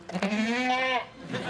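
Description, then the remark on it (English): A single drawn-out goat bleat, loud, wavering slightly in pitch before trailing off into a brief, softer rustle. “Stupid goat!”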